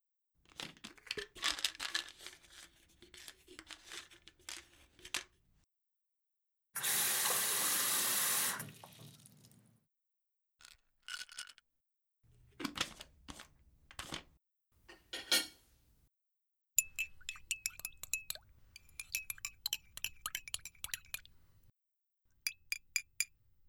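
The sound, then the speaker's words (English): Light clatters, a brief steady gush of water pouring into a glass, then bright, rapid clinks of glass ringing in quick bursts, with no one speaking, as water is readied for drinking a ground pill. “Maybe you could grind it into some water, and I'll just drink it instead.”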